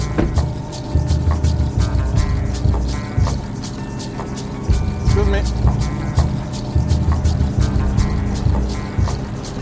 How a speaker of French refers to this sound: De là, sur le bord de la route, un immense bus est stationné, moteur allumé. A priori, ce sont les Border Patrol qui viennent de repérer des migrants et qui les mettent dans le bus.